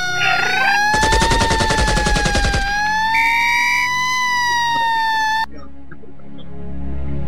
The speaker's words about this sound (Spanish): Con esta música de fondo, tiros, bombas, ambulancias, ¿qué es esto? Vayamos retirando de a poquito la música